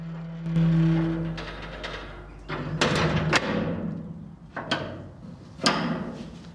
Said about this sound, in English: In this quiet old fort, Langer had improvised a whole new concept in mass murder. He closes the heavy metal door.